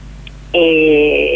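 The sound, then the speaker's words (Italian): A telephone starts ringing abruptly, a loud electronic tone that holds steady for about a second after a brief quiet moment. “Però io ci scusami che ho una telefonata, tu continua a parlare.”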